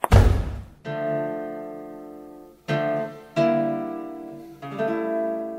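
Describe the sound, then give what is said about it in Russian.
A single loud, heavy door slam lands at the very start as Lena leaves, then gives way to ringing musical notes struck several times in slow succession, with no talking. “Лена вышла, громко хлопнув дверью.”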